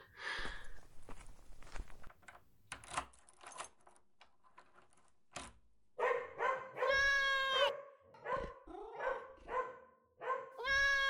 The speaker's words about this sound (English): Don't mind them. They get pretty rowdy when I get visitors. This is my dog, Baldwin. Hi there, buddy. And this little guy is Hubert. They're very friendly.